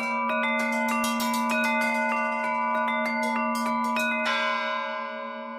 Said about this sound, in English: The Harmonic Canon is the name of the piece, but it's also the name of this huge bell, which is made by a bell maker called Marcus Vergette.